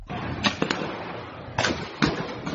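Several sharp, cracking gunshots ring out at irregular intervals, echoing over a steady background hiss, recorded from the window of a home in Venezuela as shots are fired down below.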